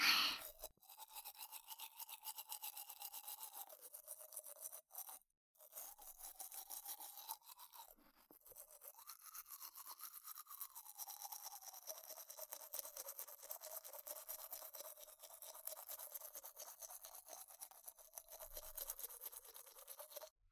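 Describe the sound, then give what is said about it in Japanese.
Steady, rapid scrubbing of a toothbrush on someone's teeth as another person brushes them, a bright bristly rasp that continues for about twenty seconds with only brief pauses and no talking. “反対側の奥に歯ブラシ入れるから我慢してな。”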